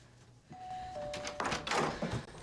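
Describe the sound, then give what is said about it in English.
A soft two-note chime rings, then a flurry of clunks, rattles and a thud as a front door is unlatched and pulled open, with no voices. “She checks herself in the hall mirror, removes her earrings, then opens the door”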